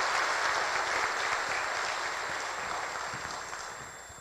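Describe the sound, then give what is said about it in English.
An audience claps together in a dense, steady wash of applause that holds strong and then gradually tapers off toward the end. “Yeah, you can clap again.”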